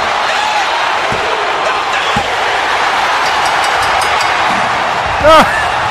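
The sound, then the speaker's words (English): A big arena crowd roars and chants steadily in unison, counting along as Austin pins The Rock after a chair shot, with a couple of sharp, evenly spaced slaps and a brief rising whistle near the end. “Here comes the count with the crowd.”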